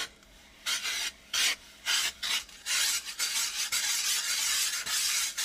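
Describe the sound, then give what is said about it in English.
A flat-bottomed glass muller grinds pigment across a frosted glass slab to make paint, with gritty, hissing rasps, first in several distinct back-and-forth strokes, then merging into steady, continuous scraping. No one speaks. “Right now I'm just gonna start grinding it.”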